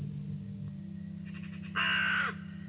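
A raven gives one loud, harsh, rasping call, preceded by a few softer throaty notes, all over a steady low background hum.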